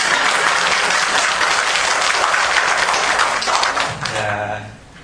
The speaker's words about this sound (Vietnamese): Cho tràng pháo tay đi.